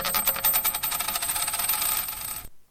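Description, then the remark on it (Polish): A tossed coin lands and spins on a hard surface, ringing with a bright metallic shimmer and a rapid wobble that speeds up before it abruptly settles. Clear, with no voices. “On rzuca monetą i oboje patrzą na wynik.”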